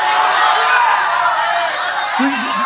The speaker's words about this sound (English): Somebody shouting here.